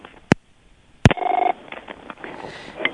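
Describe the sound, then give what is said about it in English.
Two sharp clicks, then a short, rapidly pulsing electronic ring from a door intercom connected to the phone, fairly loud, with a faint muffled background afterward and no talking. “I'm sorry, there was a problem with the door. It's connected to the phone.”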